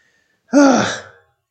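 A single sharp, breathy gasp with a voiced edge, fairly loud, bursting in after a moment of quiet and trailing off within about a second.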